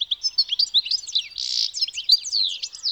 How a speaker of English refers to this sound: The source of Vivaldi's inspiration? The European goldfinch. It's a tiny bird found throughout much of Europe, where it frequents gardens and roadsides.